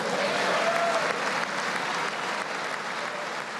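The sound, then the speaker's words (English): Sustained applause from Republicans in the large audience of President Trump's State of the Union address to both houses of Congress, dense and steady clapping with a few faint whistles or cheers mixed in, holding at a fairly loud level throughout. “Republicans greeted his remarks with applause, cheers, and standing ovations.”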